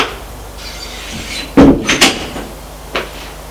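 door being opened

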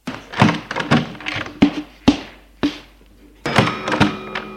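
living room door opening

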